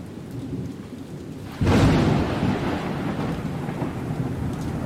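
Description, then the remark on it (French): Steady rain hisses throughout, then a loud crack of thunder bursts in and rolls on, leaving a heavier, rumbling downpour with no voices, at a campsite near the mountains in southern Romania. “Je crois qu'il va y avoir une tempête.”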